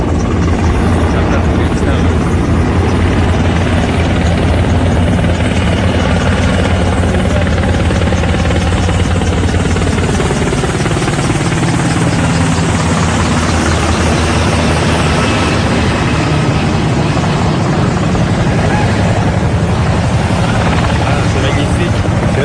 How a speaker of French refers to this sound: Parce que l'hélicoptère en se posant éteint le feu et envoie des braises et des étincelles à travers tout le paysage.